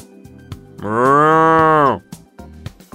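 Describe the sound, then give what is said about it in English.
A cow being walked along gives a single long, loud moo lasting about a second, with a rich harmonic drone that rises and then falls away, set against faint rustling and footsteps. “Hans walks for a bit with the cow.”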